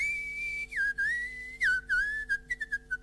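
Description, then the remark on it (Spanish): Someone whistles a lilting chamamé folk melody, a clear sustained tone that slides and bends between notes, then breaks into short separate phrases toward the end, with no talking. “Mi abuelo se silbaba todas las mañanas esa, arrancaba así”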